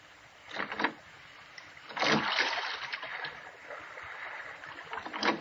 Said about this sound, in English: I wish he'd watch out where he's rowing.